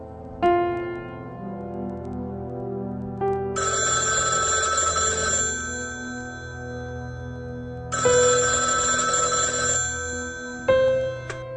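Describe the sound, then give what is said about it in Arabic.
An old telephone bell rings loudly in two long bursts separated by a pause, with steady sustained tones underneath and no one speaking. It is the phone at the home of Counsellor al-Hudaybi. “تليفون لحضرتك يا مدام، واحد بيقول انه صاحب المستشار.”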